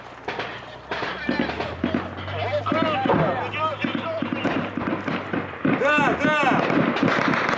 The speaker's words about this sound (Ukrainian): Мінометний обстріл, радіо число, по блокпосту стріляє, по мені стріляє.